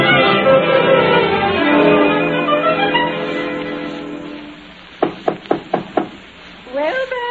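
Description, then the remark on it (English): Five sharp knocks on a door in quick, even succession, following a stretch of lush orchestral music that fades out; a voice begins speaking right after the knocking. “Someone at the door, dear.”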